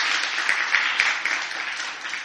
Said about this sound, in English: Yes, thank you, worship team. Let's give the worship team a big hand clap.